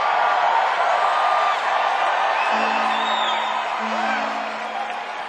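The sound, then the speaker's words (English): A large concert crowd screams and cheers continuously, a dense roar of high-pitched shrieks and whoops that stays loud throughout, easing only slightly toward the end. “It's like your scream gets into us and it gives us like superpowers.”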